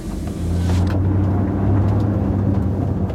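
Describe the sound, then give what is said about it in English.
A car engine rumbles in a steady, low drone as the car drives away, with a brief hiss of noise at the start. The sound stays loud throughout. “As the car drove away, leaving a cloud of fumes,”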